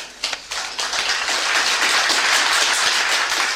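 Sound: audience applause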